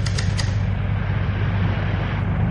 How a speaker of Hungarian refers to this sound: A gépek zenéje fortissimóba csap, a vonat kigördül a gyárból, csapágyak, hajtókarok és bütykös tengelyek zümmögő kórusa énekel.